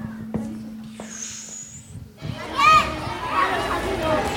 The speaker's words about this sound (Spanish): ¿El patio? Es el momento del recreo, claro que sí.